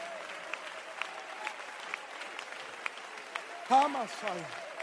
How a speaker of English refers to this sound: Somebody clap your hands for a while.